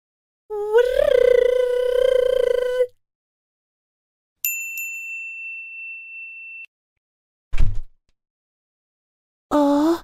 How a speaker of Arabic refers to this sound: ما هذا الصوت؟ إنه صوت باب غرفة ماما.